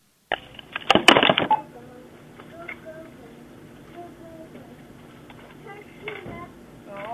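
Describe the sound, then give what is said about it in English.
A short burst of clattering and fumbling as someone switches over to a cordless phone handset, followed by a quiet, muffled phone line with faint background murmurs and small clicks. “Let me switch over to my cordless real quick, okay?”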